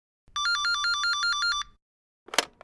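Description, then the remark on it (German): A telephone rings once with a fast, warbling electronic trill, clear, then falls silent before a brief clatter like a handset being lifted. “Es geht los. Am Telefon. 1. Antonin ruft an.”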